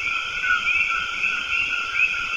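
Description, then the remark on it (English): A dense, unbroken chorus of frogs peeping and insects buzzing fills a tropical rainforest at El Verde Field Station in El Yunque National Forest, Puerto Rico, with faint bird calls chirping briefly over the steady drone. No one speaks. “Insects buzzing, frogs peeping, birds calling to one another.”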